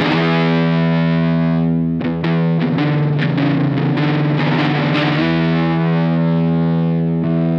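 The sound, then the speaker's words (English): A loud, heavily distorted electric guitar with three pickups rings out a sustained chord, breaks into a quick busy run of picked notes, then settles back into a long, humming held chord. No voices. “Three pickups is a great idea on paper, but I find it difficult a lot to play”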